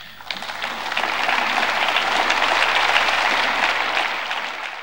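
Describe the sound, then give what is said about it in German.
Steady applause from a sizable crowd after a speech by Emmanuel Macron, a dense continuous patter of clapping that swells quickly and holds at moderate loudness before tapering slightly, with no voices over it. “Applaus ja, Euphorie nein.”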